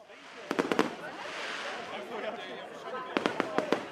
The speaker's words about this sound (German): Hamburg Ende 2018. Im Wasser der Binnenalster spiegeln sich in der Silvesternacht die explodierenden Feuerwerksraketen. Rund 10.000 Menschen sind in dieser Nacht unterwegs.